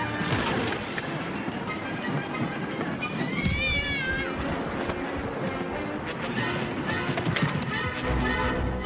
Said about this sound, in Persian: وای چه گربه خوبی. منو گاز نزنی یه کوچولو، بهم صدمه نزنی.